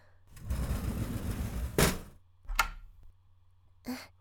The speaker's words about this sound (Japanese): ちゃんとドアを閉めて鍵をしておかなくちゃ。